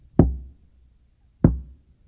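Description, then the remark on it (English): Two heavy, hollow knocks on a door, spaced over a second apart, each thudding sharply and ringing briefly before fading, with nothing else audible around them. “That comes on my door every Sunday morning about 9:15.”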